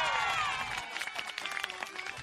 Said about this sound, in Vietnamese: Tất nhiên, cảnh tượng này khiến các bạn nhỏ bật cười thích thú. Và khi anh David Clay biểu diễn trò dùng chân, tung chiếc mũ rơi đúng lên đầu, thì những tràng vỗ tay và tiếng reo hò tán thưởng vang lên.